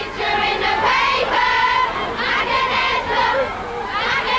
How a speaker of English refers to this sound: Tonight, really, outside Radio 1, screams, smiles and swoons outside the Radio 1 studios.